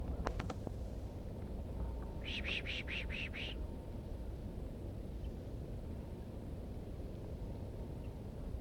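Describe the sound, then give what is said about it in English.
A person pishing to draw a female wild bird down: a quick run of about six breathy, hissing bursts in a steady rhythm, heard over a constant low rumble, with a few sharp clicks just before. “Drawing the female down by pishing.”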